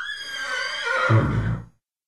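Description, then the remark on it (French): A horse whinnies once, a loud, shrill neigh that wavers and drops in pitch before ending in a low snorting rumble, lasting under two seconds with no voices. “Il toucha son cheval qui rua gaiement.”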